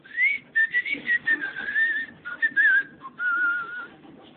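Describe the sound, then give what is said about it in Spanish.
A person whistles a short, melodic tune with rising and falling phrases and brief pauses, clear, with no talking; the whistle is a signal given every day at 5 in the afternoon. “Todos los días a las 5 de la tarde sentía yo un chiflido que era como una señal que teníamos.”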